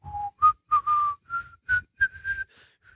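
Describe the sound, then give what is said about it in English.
A person whistles a short, simple tune imitating the whistling in a Corona beer ad, a series of clear rising notes in separate phrases with brief pauses, with no talking. “And, you have the guy whistling.”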